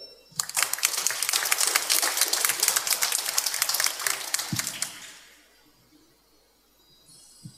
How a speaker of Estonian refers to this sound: Nii et aplaus kõigile, kes sellega töötavad.